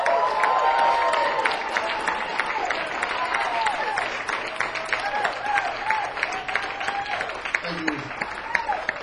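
A crowd bursts into sustained applause with loud cheering, whoops and high-pitched yells rising over dense, steady clapping throughout, welcoming a performer and the band.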